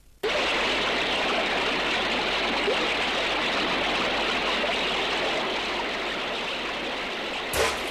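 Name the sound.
flowing river water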